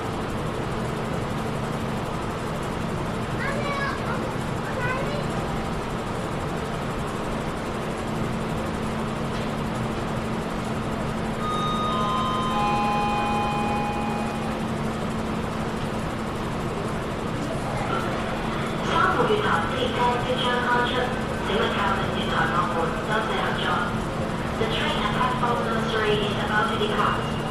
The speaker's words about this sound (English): Okay, so the train's about to depart. People are still rushing towards the doors.